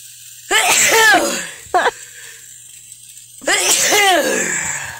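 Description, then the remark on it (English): Two loud sneezes about three seconds apart, caused by pepper while cooking, with a short sharp breath or catch between them, against a faint steady background hum. “Yep, I'm about to sneeze from all the pepper.”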